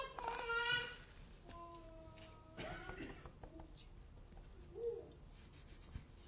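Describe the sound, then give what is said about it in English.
Scratchy strokes of drawing a sheep on black paper, coming in short uneven bursts of rubbing and scraping, with a few faint tonal sounds in the quiet background. “And I've drawn this sheep in a very, in dark, well, I've picked the black paper on purpose”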